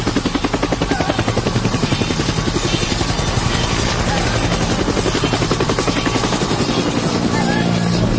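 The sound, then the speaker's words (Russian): A loud aircraft engine roars steadily throughout, with a rapid, even throbbing pulse running under the continuous drone and no break in the noise. “У тебя на кресте самолет!”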